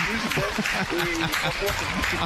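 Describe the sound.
Steady, dense clapping from a crowd fills the whole stretch at an even loudness, with voices calling and talking through it.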